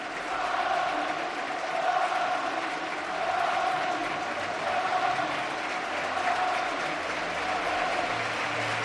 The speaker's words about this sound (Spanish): la ovación, claro, de todo el campo para el Racing. Es que se lo merece el equipo por el partidazo que ha hecho y el esfuerzo que ha hecho.